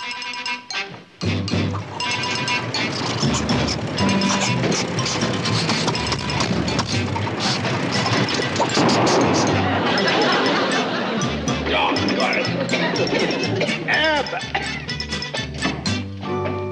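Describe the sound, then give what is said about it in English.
A faulty tractor engine with something wrong with its carburetor sputters and chugs loudly for the whole stretch, a rough, uneven mechanical racket with metallic clanks and murmuring voices mixed in. “There's something wrong with a carburetor. Yeah, it needs a new tractor on it.”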